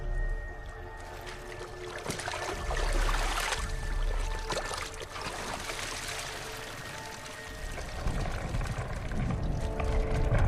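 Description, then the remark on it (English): Water in a pool sloshes and splashes continuously as a man leans in and catches a koi fish in a dark bag, scooping through it. A pouring, trickling sound swells near the end over a low steady hum. “He leans into the water and catches the moon spirit koi in the bag.”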